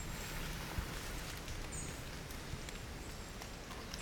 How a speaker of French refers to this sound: Les gouttes d'eau qui tombent sur les feuilles nous invitent à écouter ces murmures, à les laisser entrer en nous.